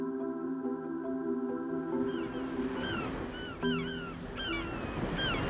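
Baltic Sea waves near Kiel rush gently in a steady, soft wash that fills the whole clip, with sustained musical tones fading out early and a few high, chirping calls on top.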